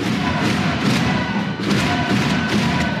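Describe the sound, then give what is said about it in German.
A loud, dense crowd of fans cheers and roars without pause in a sports hall in Wuppertal after a win, with heavy thuds like stomping or drumbeats pulsing through the din. No single voice stands out. “Ja, da war nochmal ordentlich Stimmung gestern in der Bude.”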